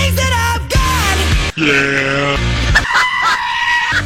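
screaming goat

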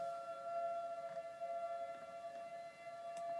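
tornado warning siren

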